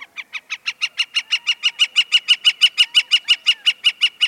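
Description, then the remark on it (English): A gilded flicker, a large tawny woodpecker, calls atop a saguaro cactus in the Arizona desert: a long, rapid series of sharp, evenly spaced notes, about five per second, growing steadily louder, with no other sounds around it. “The bird is a gilded flicker, and the cactus is a saguaro, the tall cactus with upswept arms emblematic of the Arizona desert.”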